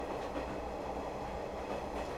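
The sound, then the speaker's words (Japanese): An 8620 steam locomotive's exhaust blast and draft sound very distant, blending into a steady, dense rumble of rolling train noise with only slight rhythmic swells. No voices are heard. “違うと8620のブラストーンもドラフトもすっごく遠い。”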